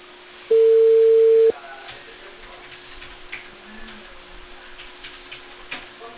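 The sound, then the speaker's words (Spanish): A loud steady telephone tone sounds for about a second, followed by a series of faint, irregular clicks as an old telephone is dialed, with no voices. “ese teléfono que tenía el otro, el antiguo.”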